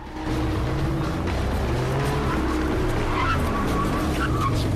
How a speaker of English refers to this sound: Sean stops abruptly in a cobbled street as he spots the Maserati coming straight towards him.